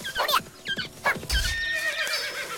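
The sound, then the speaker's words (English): A video game horse, killed with a longsword, whinnies in sharp, quavering bursts, followed by a low thud and a few hoof clops, all fairly loud with a game-like, processed quality and no talking. “The longsword does kill the horses, and you'll see.”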